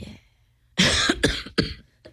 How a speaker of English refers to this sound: Yeah. As we cough. Let's take a break to cough. We're all going to cough now.